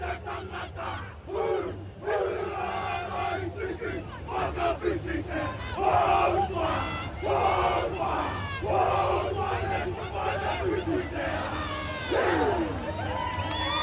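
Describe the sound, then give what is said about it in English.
A special haka war chant is performed after the game at a stadium, with teammates joined by an opposition player from the Sharks. Rhythmic shouted phrases and sharp cries from male voices rise over a constant crowd murmur, loud and forceful throughout. “Opposition player from the Sharks joined in to do a special haka for him.”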